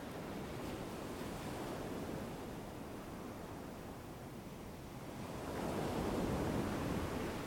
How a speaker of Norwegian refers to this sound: Koble nå sammen din bevisste oppmerksomhet og lyden av bølgene med inn- og utpust.